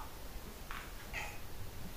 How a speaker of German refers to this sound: versucht immer zu mauzen, aber sie kann nicht mauzen. Also, sie kann schon mauzen, aber bei ihr klingt es immer so, als wenn...